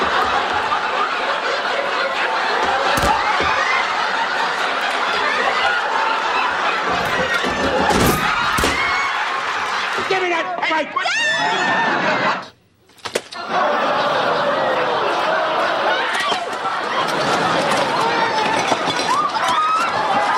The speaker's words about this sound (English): See, folks, I don't know how much longer the crowd is running for their lives.